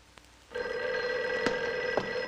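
telephone ringing

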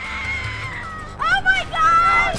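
woman screaming

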